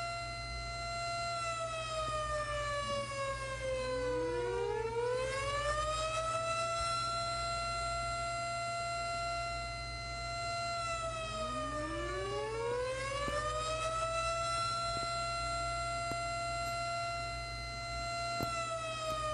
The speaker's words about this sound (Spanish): Alarma de evacuación. Por favor, suspenda actividades y diríjase al punto de encuentro.